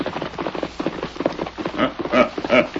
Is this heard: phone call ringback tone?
no